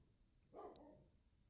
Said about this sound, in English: So, oh, wow. Dog is barking.